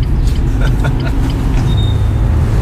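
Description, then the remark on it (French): A car descends a very steep small street that circles Square Bolivar in the 19th arrondissement of Paris, with a steady low rumble of engine and road noise, scattered light rattles, and a brief thin squeal partway through. “Donc là, voilà, on va faire le manège, c'est-à-dire le manège, c'est descendre une rue très pentue en voiture.”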